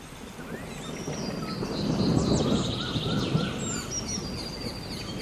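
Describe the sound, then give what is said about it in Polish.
Dense rainforest ambience with several birds chirping and trilling in high, overlapping calls above a soft, rumbling wash of background noise that swells slightly midway. No one speaks. “Tak, na początku chciałabym podłożyć dźwięki lasu deszczowego, czyli taki zwany rainforest sounds.”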